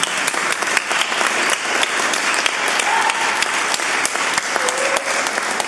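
A crowd applauds steadily, many hands clapping in a dense, continuous patter that stays fairly loud and even throughout, with a couple of faint whistles or voices poking through near the middle and end.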